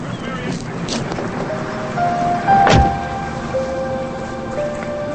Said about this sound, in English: As Catherine gets in, Robert closes the door and hurries around to the driver's side. He gets in and faces Catherine.